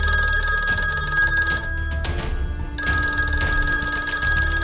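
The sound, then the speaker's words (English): A telephone bell rings loudly in two sustained bursts separated by a short pause, with no voices: a phone call coming in to Polly's dad, 48 hours later. “So 48 hours later, Polly's dad gets a phone call.”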